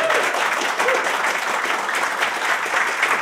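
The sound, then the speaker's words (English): A live audience applauds steadily for the guests, many hands clapping in a dense, continuous wash of sound that stays loud and even from start to finish. “Round of applause for our guests, please.”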